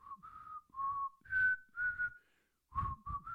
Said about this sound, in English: Were you whistling?